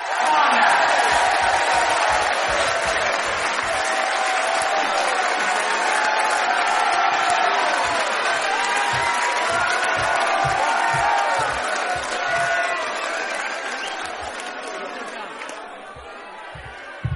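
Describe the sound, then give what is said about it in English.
A large audience at the Cambridge Folk Festival in England claps and cheers loudly and continuously, with scattered whoops and shouts over the dense applause, easing off slightly toward the end. “I don't know what you're clapping for.”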